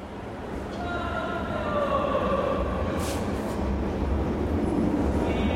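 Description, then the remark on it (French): Steady rumbling ambience of the underground Vukov Spomenik station in central Belgrade, Serbia, with a display board and escalator, drawn-out tonal whines drifting through and faint, indistinct voices of loudspeaker announcements in the background. “Tableau d'affichage, escalator, annonce haut-parleur, la station souterraine de Vukovspomenik en plein centre de Belgrade a tout d'une station de métro et même le nom.”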